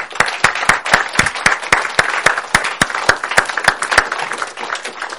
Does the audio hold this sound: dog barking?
no